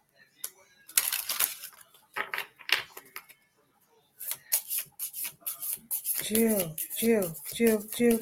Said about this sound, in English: Oh my goodness, you got two cards out of that deck. Magic. We got magic. Let me shuffle these ones again.